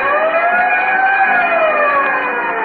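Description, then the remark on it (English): A loud fire siren wails steadily, its tone slowly rising and falling over a few seconds, heard alone with no voices. “In the meantime, whenever you hear the siren and bell, think of Texaco Fire Chief Gasoline.”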